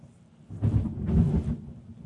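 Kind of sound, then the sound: nature, thunder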